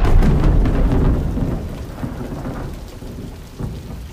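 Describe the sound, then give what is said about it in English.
A heavy downpour roars steadily with dense, hissing rain, while a deep rumble of thunder swells loudly at the start and slowly fades beneath the continuing storm. “Well, imagine you've been driving for 2 hours through a blinding downpour.”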